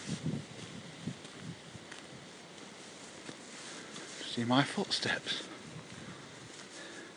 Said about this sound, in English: You can hear the wind whistling through the branches, and we're back on the walkway again.